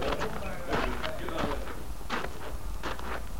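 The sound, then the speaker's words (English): Horses' hooves clip-clop at a slow walking pace as the horses are led out of sight, a handful of clops spaced roughly evenly over a steady background hiss. “get these horses out of sight.”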